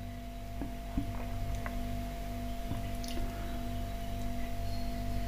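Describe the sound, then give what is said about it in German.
A steady, monotone refrigerator hum drones throughout, a low constant tone with a faint higher whine, broken only by a few soft clicks and taps. No one speaks. “Ja, ihr hört das monotone Brummen des Kühlschranks.”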